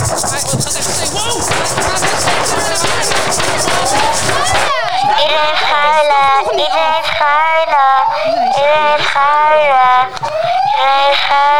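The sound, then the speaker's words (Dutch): A loud wailing alarm siren rises and falls in repeating sweeps on an island as a strong wind picks up, preceded by a few seconds of dense, noisy commotion that cuts off abruptly before the siren takes over. “Dat alarm ging ook al.”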